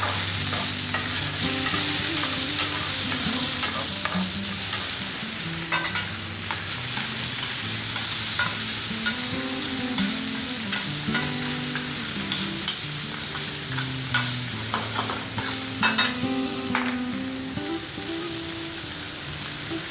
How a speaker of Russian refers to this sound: Да, но у нас тут будет еще такой небольшой нюансик. Мы их чуть-чуть протушим со сливками.